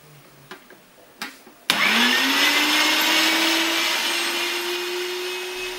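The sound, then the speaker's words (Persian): A few light knocks and taps, then an electric meat grinder mincing peeled, chopped onions switches on with a loud, steady motor whine that rises slightly in pitch and runs continuously to the end. “من الان پیازامو پوست میکنم، خوردشون میکنم و توی چرخ گوشت میریزم.”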